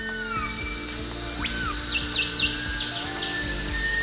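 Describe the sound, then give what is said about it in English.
Dense rainforest ambience from Sumatra, recorded in the 21st century: a steady high cicada drone runs throughout while a whistling thrush sings repeated quick, swooping whistled notes, over a busy background of other chirps and insect hum. “Sumatra. Orangutans, whistling thrush, cicadas.”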